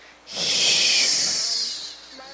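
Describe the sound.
A person voices a spider monster's hiss: one long, breathy, steady hiss of about a second and a half with a sharp start, bright and airy, fading off at the end. No speech.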